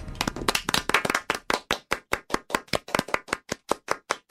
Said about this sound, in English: I was going to say, wow, you gave up clapping so quickly. I don't even know you anymore. I'll never give up on clapping.